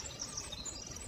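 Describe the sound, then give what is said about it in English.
Soft, continuous morning birdsong from song sparrows, American robins, red-winged blackbirds, nuthatches, yellowthroats and ravens at Tektexan Marsh on Saturna Island, British Columbia, with thin high chirps and trills over a steady outdoor hum. “Song sparrows, American robins, red-winged blackbirds, nuthatches, yellowthroats, and ravens are heard in the rich tapestry of morning birdsong”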